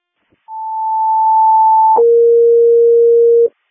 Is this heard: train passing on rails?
no